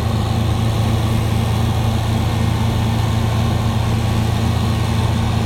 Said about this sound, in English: It's a loud truck that sounds like it eats things. I guess it's a very hungry truck.